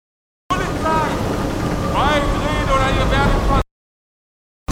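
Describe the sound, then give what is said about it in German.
A loud, continuous motorboat engine roars close by as a boat suddenly appears alongside a sailing boat on the water, its pitch climbing in a few rising whines as it revs and surges, with broad rushing noise underneath. “Tauchte wie aus dem Nichts ein Boot neben uns auf.”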